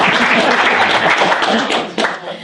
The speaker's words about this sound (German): Das heißt, hier neben uns sitzen über 40 Jahre deutsche Rockmusik. Und ich finde, das hat nochmal einen extra Applaus verdient.